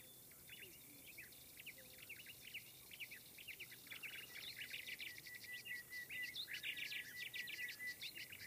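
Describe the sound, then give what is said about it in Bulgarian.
An early-rising skylark pours out a continuous, rapid stream of bright trills and chirps, mixed with other small field birds twittering in the bushes, growing steadily louder over a faint outdoor hiss. “Ранобудната чучулига с песента си звънливо събуди спящите приятели.”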